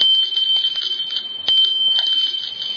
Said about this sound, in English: I brought an illustration this morning with this bell.